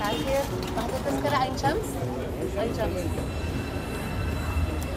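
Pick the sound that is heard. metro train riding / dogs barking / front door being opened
metro train riding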